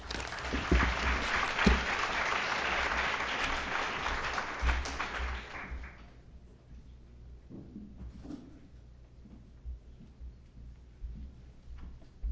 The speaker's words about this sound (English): Thank you so much to all of our wonderful first speakers. Let's have another round of applause for them.